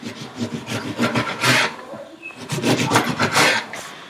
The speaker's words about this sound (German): Zitronen schneidest du in Scheiben.